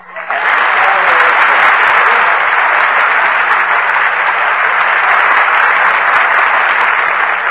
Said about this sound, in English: I just start applauding myself when I'm finished, like this.